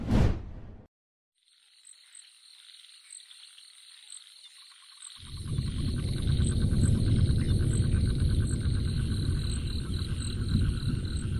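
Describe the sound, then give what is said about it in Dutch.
Crickets chirp steadily in a forest, several high, shrill trilling layers with faint rhythmic pulses. After a brief sharp burst at the start, a low rushing noise rises underneath midway through and continues. No one speaks. “Alleen de krekels hoor je nog.”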